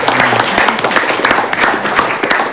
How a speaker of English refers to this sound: You did a tremendous job under extreme circumstances. And if we could, a round of applause. Thank you very much.